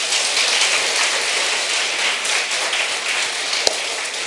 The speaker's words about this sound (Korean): 네, 박수 한번 칩시다.